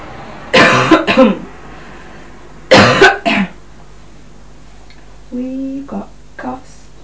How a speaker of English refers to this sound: We've got coughs.